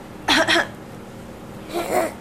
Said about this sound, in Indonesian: Batuk ya?